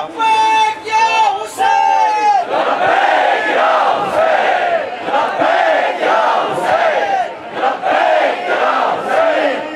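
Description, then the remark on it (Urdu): A large crowd chants a slogan in unison, loud and close, with rhythmic repeated bursts of many voices roaring together over the whole stretch. “جب تک آپ مجھے اپنے نعرے سے یہ نہیں بتائیں گے کہ آپ نے مجھے دل سے معاف کیا, کیونکہ میں دل کی فیل کر رہا ہوں کہ میں 4 دن یہاں کیوں نہیں تھا.”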